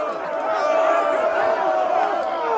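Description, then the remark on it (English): Several men's voices, pirates who sound sick, shout and scream over one another in a steady, loud, tangled clamor, raised and strained, continuing without pause for a few seconds. “All of a sudden, we heard men shouting and screaming.”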